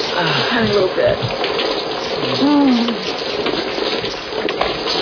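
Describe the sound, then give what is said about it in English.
Shower water runs in a steady hiss throughout, with a faint voice humming or murmuring briefly beneath the spray. “Let me jump the shower.”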